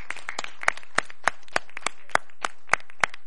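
A brief, sparse round of applause: a handful of crisp claps landing in a steady, even rhythm at moderate loudness, with no voices over them.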